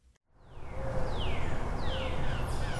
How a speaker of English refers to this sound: Just standing at the trailhead, there's a mixture of all different sorts of bird song.